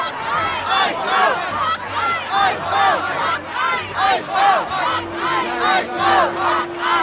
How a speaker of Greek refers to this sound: Ένα μικρό πλήθος, μερικοί από τους οποίους τραβούν βίντεο, απαιτούν από τους ομοσπονδιακούς πράκτορες να φύγουν.